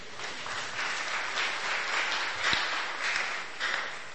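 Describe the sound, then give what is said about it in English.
A crowd claps steadily for about four seconds, a dense, even patter of many hands with slight swells in intensity and one sharper clap standing out midway. “Clap for him.”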